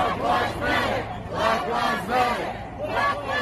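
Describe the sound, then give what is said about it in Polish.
A large protest crowd in the USA, including white American citizens, shouts "Black lives matter" in unison, a loud rhythmic chant repeating about five times in quick, steady bursts over a constant roar of many voices. “Krzyczą też biali obywatele USA.”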